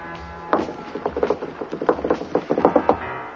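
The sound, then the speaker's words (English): A quick series of hard knocks on an old water pipe from a former radiant water heater, about a dozen taps in an uneven rhythm, each short and sharp with a slight hollow ring. No voices. “Hear that? Secret room? It's a pipe. There once was a radiant water heater right there.”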